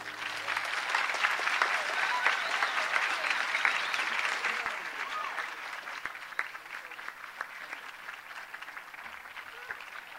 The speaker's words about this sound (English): Chief James Billy of the Seminole Tribe. Let's have another round of applause for the chief. Quite a guy.